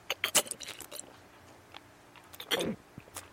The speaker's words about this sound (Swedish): Men gud, jag sitter och äter. Du måste ju låta mig tugga klar.